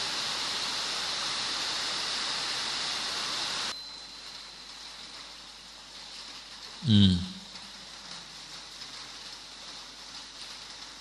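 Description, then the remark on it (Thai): Heavy rain roars as a dense, steady hiss for the first few seconds, then cuts off abruptly to a quieter background, with a single dull thump shortly after. “เอาต่อนะฝนตกแล้วก็เอาต่อ”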